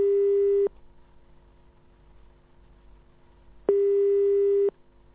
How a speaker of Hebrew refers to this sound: והטלפון מצלצל בביתו